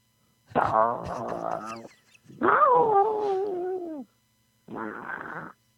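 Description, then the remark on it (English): A cat, caught in a car engine's serpentine or accessory belt, yowls in three loud, strained bursts, the middle one a long wavering wail that slides downward, separated by brief silences. “the cat got wrapped up in the serpentine or the accessory belt”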